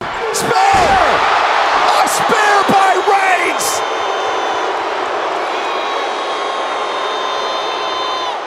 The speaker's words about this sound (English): But listen to these boos that your guy is getting.